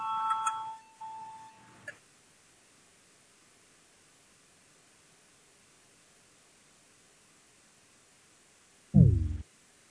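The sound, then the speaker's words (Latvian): A parliamentary voting bell rings for about two seconds with a bright, tonal electronic chime, rung to call a vote on a proposal, followed by a long stretch of near-silence and a single dull low thump near the end. “Lūdzu zvanu, balsosim par 87.”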